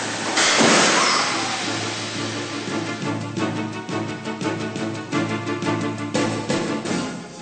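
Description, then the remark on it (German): A brand-new car's engine rumbles steadily in a car factory's crash test hall, kicking in with a burst of noise near the start and then running with a rhythmic, pulsing throb. No one speaks. “Die fahren nagelneue Autos zu Schrott.”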